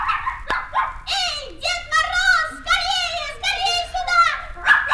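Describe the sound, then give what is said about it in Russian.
A small dog yaps and yelps in a quick run of high, whiny barks, several bursts in a row, fairly loud, with pitch sliding up and down between them. “В свертке была волшебная собачка.”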